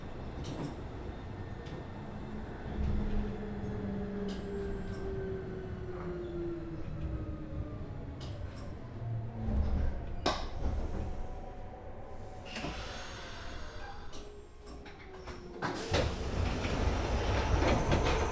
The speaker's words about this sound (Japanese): 福岡天神行き急行です。扉閉まります。